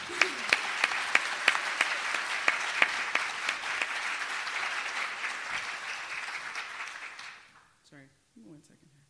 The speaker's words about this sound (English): So they need a round of applause.